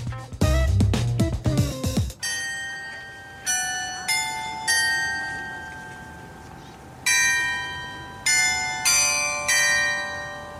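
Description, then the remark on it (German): The carillon on the market square of Goslar, Germany, installed in 1968, plays a slow melody in the open air, each clear bell note struck and left to ring out, following a brief burst of busier sound at the start. “Das Glockenspiel auf dem Marktplatz von Goslar.”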